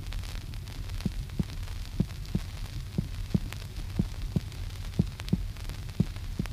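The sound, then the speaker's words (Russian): Normal heart sounds through a stethoscope: steady paired lub-dub thumps repeating about once a second, low and muffled over a constant background hum, with no voices. “Для лучшей ориентировки прослушайте нормальные тоны сердца.”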